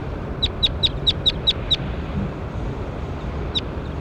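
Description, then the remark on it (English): A bird, numbered bird 21 in a recording session, calls in a quick series of seven sharp, high chirps, then goes quiet before one more chirp follows, over a steady low rumble of wind or background noise. “That was bird 21.”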